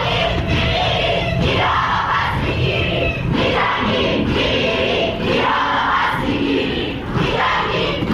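University students in Iran chant loudly in unison at a protest commemorating the victims of the Revolutionary Guards' missile strike on the Ukrainian airliner, voices rising and falling in steady rhythmic bursts of shouted slogans, with continuous crowd noise filling the gaps.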